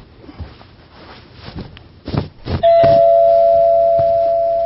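A doorbell rings partway through, a loud, steady electronic tone that holds and slowly fades, following a few soft rustles and muffled footsteps. No one speaks.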